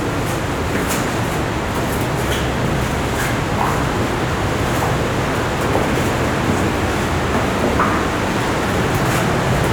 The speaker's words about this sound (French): Au bout de la galerie, vous entendez la rivière souterraine qui gronde.